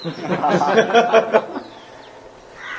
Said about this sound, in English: That's a parrot. He's welcome.